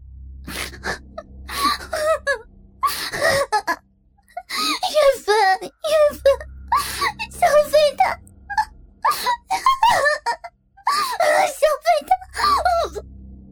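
A woman cries loudly and without restraint, her wails rising and breaking into gasping sobs. The outbursts come in rapid, uneven waves, intense, with brief catches of breath between them.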